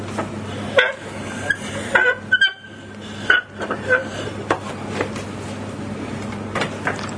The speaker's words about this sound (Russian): Скрипы разные. А эта вот скрипуха, она чем хороша? Тут можно даже дверки озвучивать. Мультяшки, когда озвучиваешь, дверка. Калиточка, например.